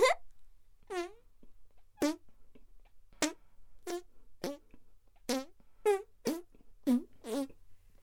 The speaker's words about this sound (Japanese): やっぱ止まんないな。はーい。ずっとおなら出っ放しだったね。